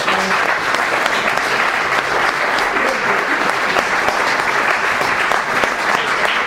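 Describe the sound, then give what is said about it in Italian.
Steady, dense audience applause welcoming the evening's guest, a doctor, lasts several seconds, many hands clapping at once with no pauses, loud, with no one talking over it. “Questa sera invece abbiamo come nostro ospite il dottor Pecchenini, al quale direi facciamo un bel applauso.”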